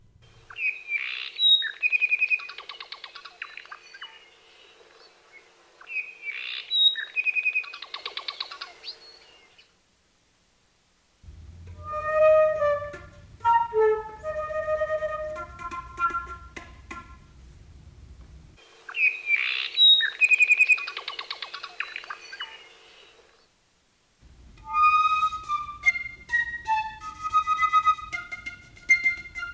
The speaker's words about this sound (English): Let's hear the call of a bird that is still with us. The apapane is still around,